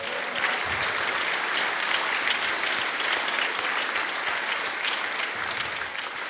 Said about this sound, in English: Round of applause for that guy.